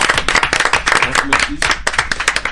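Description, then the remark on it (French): A small group in the Campus studios claps for themselves, a dense burst of hand claps lasting a couple of seconds, with a voice briefly audible underneath. “Allez, on s'applaudit tous.”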